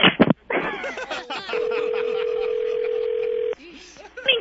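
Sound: telephone dialing tones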